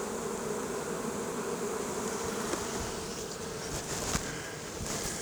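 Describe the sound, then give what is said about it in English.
A steady, dense hum of many honeybees buzzing around an open hive box during a hive inspection, with bees on the inner cover, a continuous droning swarm sound with no talking, holding even in loudness throughout with a couple of faint knocks. “Grab the inner cover. There's stupid bees on it.”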